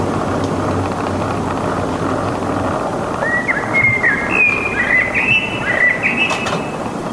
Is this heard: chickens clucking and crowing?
no